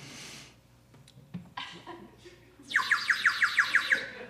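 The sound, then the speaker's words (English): A fake call of the rare blue-breasted yellow finch: a quick run of about eight bright, high chirps, evenly spaced and fairly loud, following a stretch of faint rustling and a few soft clicks. “A fake blue-breasted yellowfinch sounds like that, but the real one sounds like this.”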